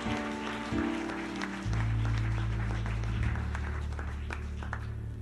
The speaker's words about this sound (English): Clap your hands, everyone, please.